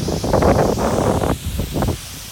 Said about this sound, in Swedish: få upp sin mobiltelefon och dokumenterar när han vattenbombar det gula huset medan vinden piskar på.